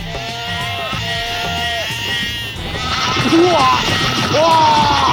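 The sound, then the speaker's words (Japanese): A sheep bleats several times, loud, quavering calls, first a steady wavering run and then a few rising, drawn-out bleats, with a busy, noisy background underneath, as it goes for a person's throat. “羊、この人の喉を噛んではいけないっす。 今度は羊が。”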